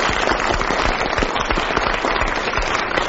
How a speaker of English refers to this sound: So I think she needs a round of applause and certainly an extra point.